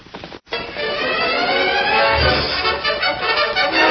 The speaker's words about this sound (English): Dan, still under the counter, heard the approaching horses and recognized Silver's hoofbeat.